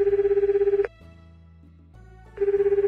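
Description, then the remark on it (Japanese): A phone line ringback tone heard from the caller's end as the caller phones their father: a loud, warbling electronic ring that pulses rapidly, then a pause of about a second and a half before the ringing starts again. “あー、そっか、電話してみようっと。”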